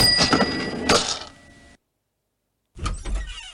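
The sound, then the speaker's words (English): An AOL Instant Messenger door sound effect plays twice: a bright, creaky door opening that fades out, then about a second of silence before a second door sound with a heavy low thud and rattle. “Now, if you were kind of, you know, on AOL Messenger back in the day, you might remember these sound effects.”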